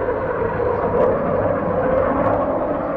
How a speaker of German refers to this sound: Statt US-amerikanischen, britischen oder französischen Jets sind es jetzt russische Kampfflugzeuge, die ihre Bombenlast über den vom IS kontrollierten Wohngebieten abwerfen.